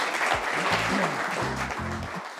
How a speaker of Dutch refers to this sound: graag applaus.